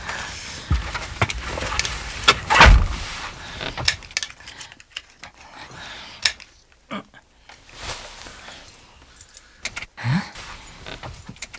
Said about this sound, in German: Okay. Ich mach schon mal den Wagen an.